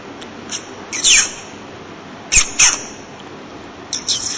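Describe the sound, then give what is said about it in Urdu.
A person imitates whistling with a few short, shrill, high-pitched chirps in separate bursts, one sliding downward, with quiet pauses between them and no speech. “یہ سیٹی بجانے کی نقل ہے نا، اور یو یو یو یو آرام سے کھڑا نہیں ہو سکتا.”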